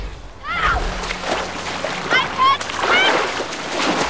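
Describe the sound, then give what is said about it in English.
Water splashing and sloshing as two people dive from an opening in a ship into a lake, with repeated churning bursts spread across a few seconds, moderately loud, with no clear speech. “Picard and Data both dive from the opening in the ship.”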